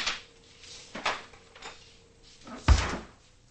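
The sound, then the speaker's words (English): A refrigerator door is handled in a large kitchen as two salads are put inside: a few soft clicks and rustles, then a solid thud as it swings shut, with a faint steady hum underneath and no talking. “Later in her large kitchen, Adrian puts two salads in the refrigerator.”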